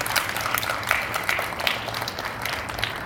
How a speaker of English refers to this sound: I totally agree. Let's give applause for that.